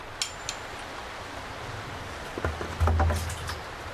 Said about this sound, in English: Wow. This rain is really heavy. I should take advantage of the weather and put my water containers outside.